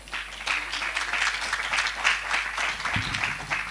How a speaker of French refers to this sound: Merci. Est-ce qu'on peut l'applaudir?